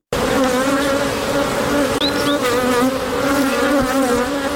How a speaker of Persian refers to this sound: صدای این زنبورها برای زنی که به زنبورداری عشق می‌ورزد خیلی گوشنواز است.